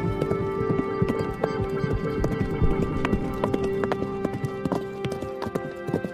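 Horse hooves clip-clop in a steady rhythm of many sharp knocks, with a horse's whinny woven in among them, fairly loud throughout.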